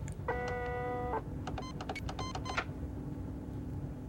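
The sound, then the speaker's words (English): A motorized glass security door, released by a code typed into a keypad, slides open with a steady, droning whine, followed by a quick run of short electronic beeps, all over a constant low mechanical hum. “He enters a short hallway, where he types another code into a keypad that releases a glass door.”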